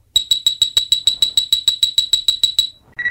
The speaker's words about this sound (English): This is the story of Star Trek IV, The Voyage Home. You can read along with me in your book. You will know it is time to turn the page when you hear the communicator beep like this.